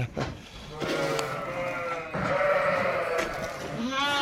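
Several ewes bleat in overlapping, wavering calls, loud, one long bleat running into the next, with a shakier cry near the end and no voices heard; the flock is on high mountain summer pasture at 1800 metres altitude.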